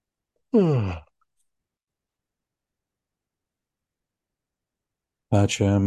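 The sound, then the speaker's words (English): A single drawn-out, voiced yawn with a falling pitch, fairly loud, followed by several seconds of silence before another vocal sound begins at the very end. “One more yawn.”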